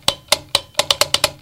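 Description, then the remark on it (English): A light switch clicks sharply about nine times in quick succession as the lights are snapped on and off, crisp, the snaps coming faster toward the end. No voices are present. “And they snapped the lights on and off.”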